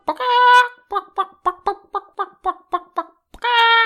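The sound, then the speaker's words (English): A chicken clucks: a long, loud squawk, then a steady run of about nine short clucks, ending in another drawn-out squawk, with no talking. “So today, let's talk about chickens.”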